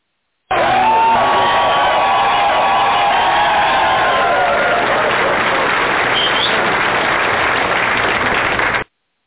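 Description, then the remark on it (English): A crowd applauds loudly and steadily for about eight seconds, a dense wash of clapping mixed with cheers and a few high whoops early on, before cutting off abruptly. “And the audience, the audience was applauding you, man.”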